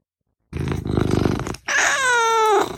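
A domestic cat named Rocket vocalizes: a low, pulsing growl-like rumble, a brief pause, then a loud, drawn-out meow that wavers and trails off. No one speaks.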